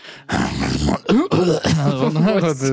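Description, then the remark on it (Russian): Someone imitates a cough: a harsh, breathy burst followed by a few throaty, voiced hacking sounds, fairly loud and over in a few seconds. “Женщина выиграла иск против покашлившего на нее босса.”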